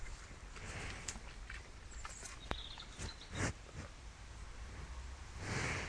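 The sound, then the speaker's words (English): Breathy snorts from cows in a field, with a louder puff midway and another at the end, over faint rustling and shuffling movement. “So I'm here in the field with the cows.”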